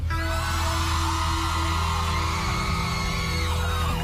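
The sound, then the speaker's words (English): An audience of women screams loudly and continuously, a dense, high-pitched roar of many voices from start to finish. “But before I do that, I want all the ladies to give me three big scream.”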